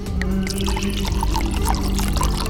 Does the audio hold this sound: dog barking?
no